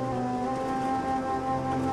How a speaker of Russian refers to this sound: Дождливая ночь.